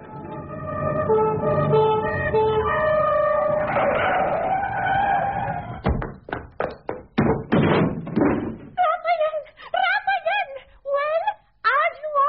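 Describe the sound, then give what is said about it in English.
A rapid series of heavy, sharp thuds as a door is kicked in at 3 o'clock in the morning follows a wavering siren-like tone and a noisy stretch, then gives way to giggling, chattering voices. “Look, it's 3 o'clock in the morning and you just kicked in my door.”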